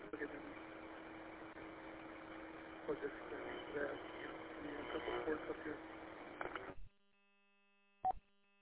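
Steady, muffled road noise inside a moving car, a broad rumbling hiss that sounds phone-filtered, cuts off abruptly near seven seconds. Silence follows, broken by one short electronic beep.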